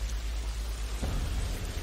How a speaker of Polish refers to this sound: O kurcze, kurcze. Ty patrzcie, pioruny walą.